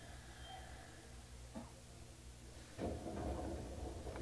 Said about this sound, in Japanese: 天満橋、天満橋、京阪線は乗り換えです。右側の扉が開きます。ご注意ください。